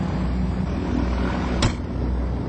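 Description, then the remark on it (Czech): A single sharp clunk of an aircraft door shutting before takeoff, heard midway through a steady, loud droning rumble of engines and cabin noise, with no one speaking. “To byly dveře.”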